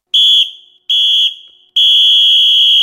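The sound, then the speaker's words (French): A referee's whistle sounds the final whistle marking the end of the programme: three loud, shrill blasts, two short ones that trail off, then a long sustained final blast. No voices accompany it. “C'est l'heure du coup de sifflet final, effectivement.”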